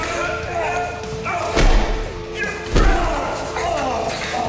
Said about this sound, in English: Lethan bursts out and slams Grant into the wall. Grant drops his gun. Lethan punches him.